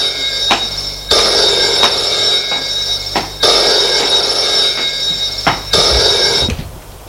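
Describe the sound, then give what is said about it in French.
An old-style telephone on a small writing desk in a corner of a living room rings loudly in repeated metallic bursts, each jangling trill separated by brief pauses, alone with no voices. “Se lève pour aller décrocher. Le secrétaire se trouve dans un coin du salon, sur un petit secrétaire.”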